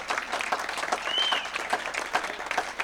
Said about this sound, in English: I've been in Iowa singing professionally for almost, and please clap for this, 20 years.